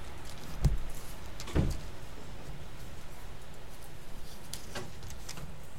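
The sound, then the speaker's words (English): A door knocks or bumps twice in quick succession near the start during a Bible lesson, two dull thuds about a second apart, then a faint hum of room noise continues with no talking. “So, the door.”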